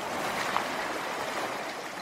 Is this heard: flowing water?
yes